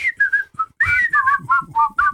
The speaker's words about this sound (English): can you whistle the Andy Griffith theme?